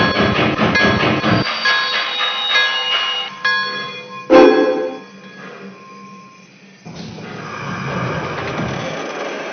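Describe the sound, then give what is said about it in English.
Passenger train number 12, the Salt Lake Limited, rumbles along with rhythmic clanking, a steady ringing bell tone running over the noise, then a sharp metallic clank and a quieter stretch before the rolling rumble returns. “Train number 12, Salt Lake Limited.”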